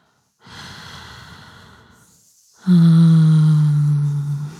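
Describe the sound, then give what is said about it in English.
One slow, deep breath: a long airy inhale, a short pause, then a louder, drawn-out exhale with a soft voiced hum to it. No talking. “Match my breathing, not my stroking.”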